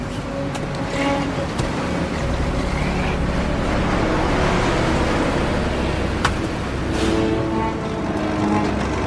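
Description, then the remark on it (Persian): A truck engine rumbles steadily and fairly loudly for the whole stretch as two men ride in the truck, a continuous low drone with a brief sharp knock partway through and no voices. “سوار کامیون میشه.”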